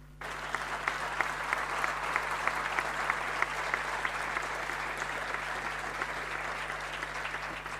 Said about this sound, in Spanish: No, no es casualidad que el aplauso haya salido de los intendentes, porque esto es simplemente escucharlos